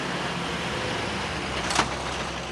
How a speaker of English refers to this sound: Mayor Bob Thompson is doing his part by helping rescue a service truck that's stuck in the mud. He and another resident attached large chains to it and then to the town's tractor.